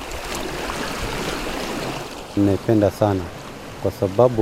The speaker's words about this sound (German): Langsam bewegt sie sich auf den Ozean zu, bis die Wellen sie umspülen.